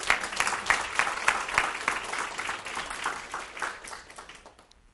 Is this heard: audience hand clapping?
yes